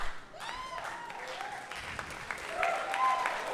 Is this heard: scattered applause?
yes